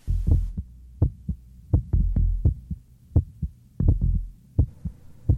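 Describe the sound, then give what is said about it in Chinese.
A heartbeat thuds steadily on its own, deep muffled double thumps repeating at a regular pace over a low hum, with a short hiss of noise at the very start. “活着有呼吸，有心跳，有体温，这叫生存。”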